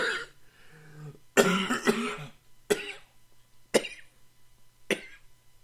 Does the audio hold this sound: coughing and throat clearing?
yes